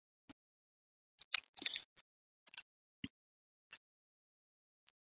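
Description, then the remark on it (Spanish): Faint crinkling of a hard candy's wrapper in a brief burst as it is unwrapped, followed by scattered quiet clicks and taps, like the hard sweet knocking against teeth as it is eaten, with no voices. “Así mientras bebo agua, me como un caramelo.”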